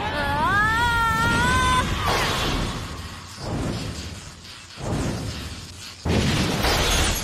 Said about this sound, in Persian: انفجار و بازم انفجار. توی یه مبارزه توربایی خیره کننده لئوپارد باعث شد آشیل به سمندر بخوره و همزمان منفجر بشن. وایس لئوپارد برنده شد.